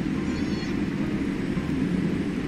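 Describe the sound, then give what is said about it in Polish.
Boeing 787 Dreamliner jet engines drone steadily on the runway in Oslo in bad weather before takeoff, a dense low rumble with a hiss above it, constant in loudness throughout and heard from inside the cabin with no talking. “Bo przepuszczaliśmy trochę samolotów, jesteśmy już na pasie, zobaczymy, jak przyspiesza tutaj. Ten oto Dreamliner.”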